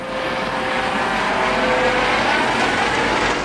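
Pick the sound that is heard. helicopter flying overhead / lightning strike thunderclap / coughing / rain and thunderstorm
helicopter flying overhead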